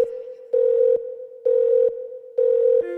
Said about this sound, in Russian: Снова звонок, бля, я занят.